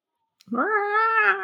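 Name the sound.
cat caterwauling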